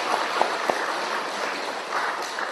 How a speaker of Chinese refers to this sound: 第二个，大家愿唔愿意往生极乐世界？再鼓掌啊！鼓掌声大一啲。